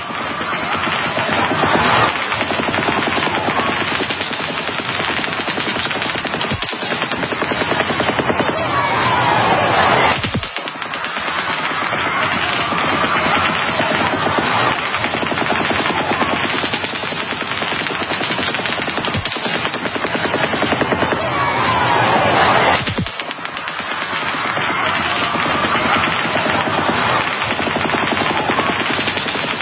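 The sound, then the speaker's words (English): Sustained rapid gunfire from two different types of firearms crackles almost nonstop, with crank-operated or belt-fed automatic bursts and sharper semi-automatic shots mixed in. It stays loud throughout, broken only by a few brief pauses. “they say you can clearly, in video after video, hear two different types of firearms. Some type of crank operation or belt-fed, and then a more classic semi-auto.”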